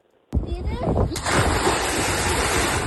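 After a moment of silence, a body belly-flops flat into water with a loud, sudden splash in a splash contest. A second smack follows, then churning water keeps sloshing and hissing to the end.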